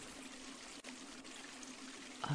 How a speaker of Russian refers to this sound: Ах, это не что иное, как дождь, который хлещет в окна. Идет сильный дождь, вот и все.